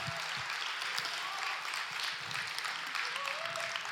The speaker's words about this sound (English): Let's give God a hand clap.